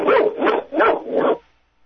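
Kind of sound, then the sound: animal, dog barking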